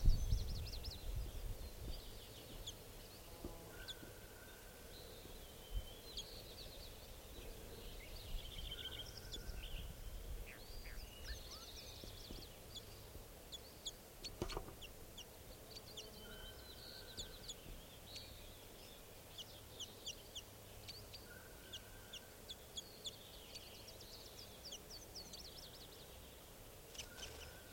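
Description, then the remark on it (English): A lone bird at a camp by a forest clearing gives soft, scattered chirps and short whistled notes at irregular intervals against a quiet outdoor background with no talking. “So, one of the birds here is calling.”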